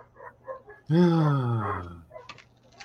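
animal, dogs barking and growling

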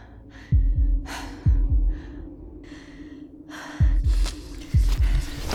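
human body sound, gasping

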